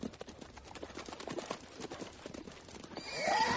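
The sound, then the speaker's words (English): Hooves clop in a steady, busy rhythm, as if several horses are walking, then a loud horse whinny rises sharply at the end. “We'll walk the horses.”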